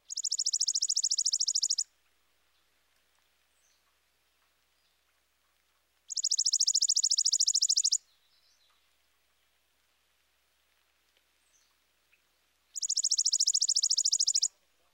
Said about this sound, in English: Next, the mechanical dry trill of the chipping sparrow.